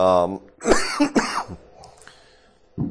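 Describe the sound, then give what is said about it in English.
A man coughs in two harsh bursts, then clears his throat with a rough rasp, briefly starting to speak before and after the fit. “And you're sick of hearing me cough.”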